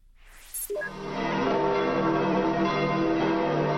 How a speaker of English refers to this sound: That's the clear sound of bells after Pope Benedict delivered his annual Christmas Day message.